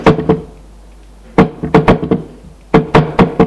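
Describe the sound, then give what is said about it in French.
Three bursts of firm knocking on a wooden door, each a quick cluster of three or four sharp raps separated by short pauses, fairly loud with no voices. “Il entend cogner à la porte.”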